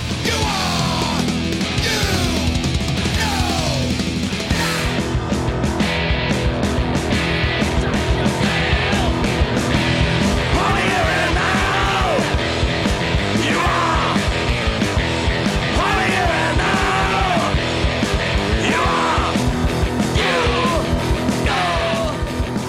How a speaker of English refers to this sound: so it could be one of the saxophones or one of the pedals that Dimitri uses that sounds like a group of people that are kind of covering their eyes and they're screaming at the top of their lungs, like a almost like a banshee kind of thing going on.